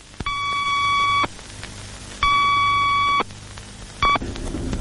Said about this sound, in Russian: За 4 секунды до взрыва начали подаваться предупредительные сигналы времени. Два длинных и короткий.